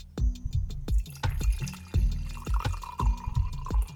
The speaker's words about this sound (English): Let me get a little bit out and pour it into a cup for you. 1 second. First, I have to undo the lid, of course. Now it's time to pour you a cup.